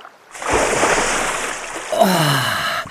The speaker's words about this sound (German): Wenn er von der Sonne durchwärmt ins kühle Wasser sprang, kribbelte sein Fell so schön, dass es fast nicht zum Aushalten war.